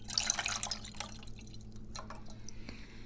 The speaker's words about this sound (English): This is 6 ounces. 6 fluid ounces of pineapple juice, which is 3/4 of a cup, or about 177 milliliters. If you are metric science guy. It's so pineapply. And we pour it into the pan.